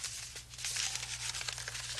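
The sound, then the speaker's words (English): A paper piano roll is being inserted into a player piano, with continuous crinkling and rustling of stiff paper over two seconds, over a faint low hum. “You put the paper piano roll in here, and then you push this button.”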